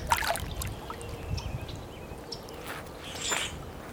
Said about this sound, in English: See if we can hear the water. It's one of my favorite sounds in the world, the sound of water. I feel like it calls to something in our veins.